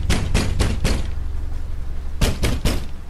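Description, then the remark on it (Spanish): Four firm knocks on a house door in quick succession, a brief pause, then three more knocks, all fairly loud against a low steady background hum. “Continuaron golpeando la puerta.”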